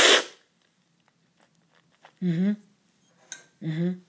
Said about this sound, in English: And of course, I've been to quite a few cupping sessions now, so I've hopefully perfected the slurping. Well, perfected, you can never perfect anything, but I'm, I think, getting better at that slurping.